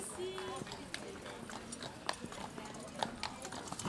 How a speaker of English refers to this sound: Horse-drawn carriages. I feel like I've time-traveled.